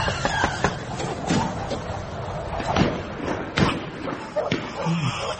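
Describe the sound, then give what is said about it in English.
Several irregular, moderately loud knocks rap against the front door of number 36F at Rosehip Court, spread over a few seconds with shuffling and faint background noise between them. “knock on the door.”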